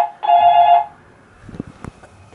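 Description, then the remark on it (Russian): A telephone rings with an incoming call placed from another phone to its own number: one loud, steady electronic ring burst lasting under a second, followed by quiet clicks and handling sounds. “Хочу позвонить с другого телефона на этот же номер.”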